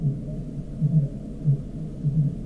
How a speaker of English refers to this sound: A population of fin whales in the southwest.